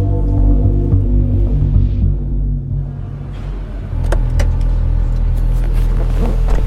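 A car engine, started by turning the ignition key, rumbles steadily, a deep throbbing idle that dips briefly and then swells again, with faint clicks and rattles over the low hum.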